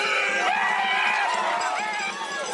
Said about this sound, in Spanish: Espantar, un poco incitar a la gente, ¿no?, al público. Que un tío de 1,80 viene corriendo y empieza con unos chillos un poco como aquel, más bien animalados, acojonan.